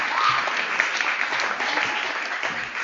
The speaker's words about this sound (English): I think that reading deserves a round of applause, don't you?